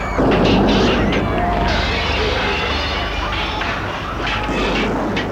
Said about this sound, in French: L'on entend le bruit des émeutiers dans l'allée. L'allée est étroite, noire.